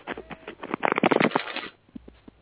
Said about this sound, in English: Shuffling, tell me when to stop.